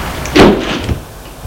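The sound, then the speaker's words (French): The front door of an apartment building is opened with a key: a broad heavy thud and a brief scrape, followed by a lighter knock, with no voices. “La porte-palière de son immeuble avec une clé.”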